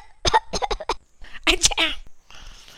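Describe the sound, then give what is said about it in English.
A voice imitates a parrot's cough or sneeze: a few short voiced bursts, then a loud, breathy, sharp burst, trailing off into a faint hiss. Fairly loud. “Then he stops to sneeze or cough.”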